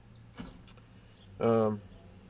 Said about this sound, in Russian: Я дверку приоткрою, а то мне что-то жарковато здесь в машине.